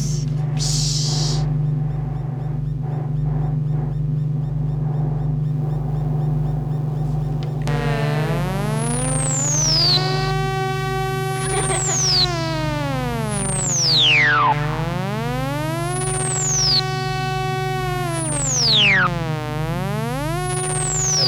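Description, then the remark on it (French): Synthetic, video-game blaster-like chirps: bright electronic tones repeatedly sweep down then rise back up, layered over a steady low droning hum that runs the whole time, with a faint hissy start. “Des bruits de jeux vidéo un peu. Ouais. Genre des blasters, ça, comme ça.”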